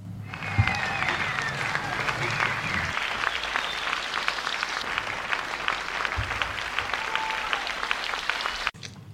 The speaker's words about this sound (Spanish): Vagi per endavant el nostre aplaudiment.